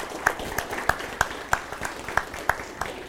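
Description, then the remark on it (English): An audience claps, with sharp, evenly spaced claps standing out at a steady rhythm of about three per second over a softer wash of applause. No one speaks. “Clapping always helps with the awkward transitional silence, so we appreciate that.”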